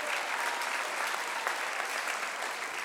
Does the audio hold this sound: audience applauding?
yes